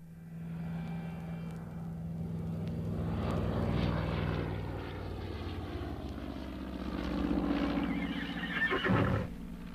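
A propeller aeroplane engine sound effect from a radio play drones steadily, swelling louder and rougher toward the end, with no voices.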